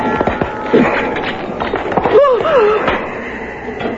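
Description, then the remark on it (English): A drinking glass is crushed and smashed with a bare hand, a sharp crack followed by a brief scatter of crackling bits, with a short cry rising over the noise soon after. “You broke your glass with your bare hand.”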